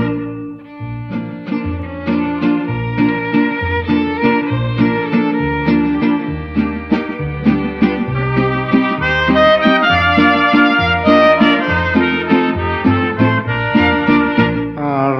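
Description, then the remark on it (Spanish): A street barrel organ plays a bright, steady tune with sustained reedy chords over a thumping, stepwise bass line, loud, continuing without any voices. “O se escucha el cilindrero trovador.”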